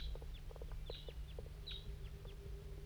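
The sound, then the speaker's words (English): A crossbill of a large race (at least one bird, flying around in a hollow at 8:06 a.m.) gives a scattered series of short, sharp, high chip notes, faint and irregularly spaced, over a steady low hum with no voices. “and there's a Wild Cross Bill somewhere down here in the hollow.”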